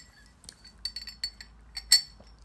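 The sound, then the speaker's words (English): A ceramic coffee mug clinks several times in quick, irregular succession as someone takes a sip of coffee, bright and ringing, with a louder chime near the end over a faint low hum; no one speaks. “I need to take a sip of coffee.”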